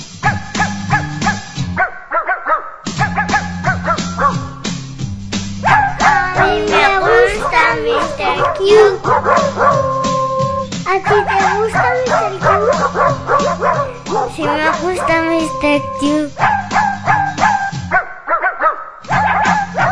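Dogs bark, yip and whine over and over in a tuneful pattern above a steady, rhythmic musical backing, loud throughout, with a brief pause near the start and the end.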